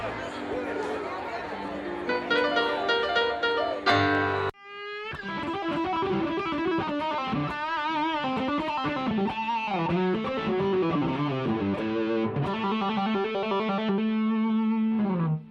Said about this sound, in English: And this is the sound of the blues scale. The blues scale is very simple, very useful, but also very simple to build. All you have to do is know your minor pentatonic scales. So in this case, I was playing A.